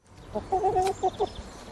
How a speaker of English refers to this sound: Egg-laying hens like these clucking around in suburban Brussels got a leg up from the EU this year with a long-planned ban on battery cages, the wire pens that cram chickens tightly together.